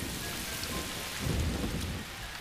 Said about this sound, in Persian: زندگی این آگوتی کوچک به آنچه از بالا می‌افتد بستگی دارد. باران مایه حیات جنگل است.